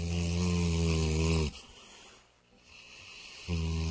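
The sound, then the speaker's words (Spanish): A dog snores in deep sleep: a long, loud, rumbling snore, then a quieter, airy breath, and another rough snore starting at the end. No voices. “En cierta ocasión, dormía profundamente.”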